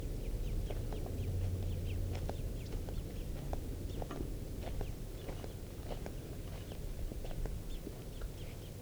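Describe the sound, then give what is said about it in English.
Two birds call back and forth in short, sharp, high chirps, repeated irregularly throughout over a steady low rumble and rustling, with no voices. “It may just be two birds, the parent and the young.”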